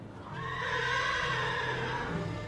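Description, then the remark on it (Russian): A warrior's faithful warhorse whinnies in one long, quavering call lasting a couple of seconds, fairly loud, with no voices present. “Уж-то верный богатырский конь порычает теперь хозяина.”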